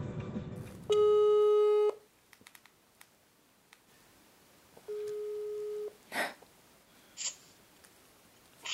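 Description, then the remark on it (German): A telephone ringback tone sounds twice as a phone call is placed to parents living on the ground floor of the same house near Linz, each steady electronic buzz lasting about a second with a long pause between, followed by a few soft clicks and rustles as if the line connects. “Gespräche mit ihnen sind weiterhin nur über das Telefon möglich.”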